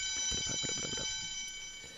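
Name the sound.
school bell ringing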